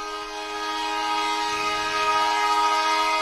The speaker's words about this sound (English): Oh yes, that's the Dakar-Calcutta Express. Passenger trains are travelling from Bangladesh to India today. For the first time since 1965, that's when the service was suspended because of a war between India and Pakistan.